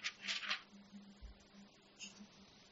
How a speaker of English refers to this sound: Sorry about turning the pages.